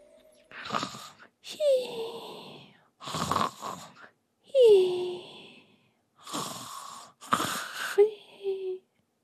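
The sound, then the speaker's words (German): A voice imitates a marmot's soft snoring: about four slow, breathy inhale-and-exhale cycles, each exhale ending in a thin, falling whistle, fairly quiet, with no other sounds. “Die beiden Socken vernahmen das leise Schnarchen von Mokko.”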